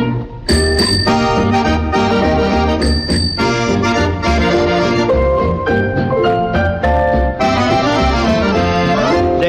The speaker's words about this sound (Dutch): Als ik tweemaal met mijn fiets bel bel, dan betekent dat kom snel.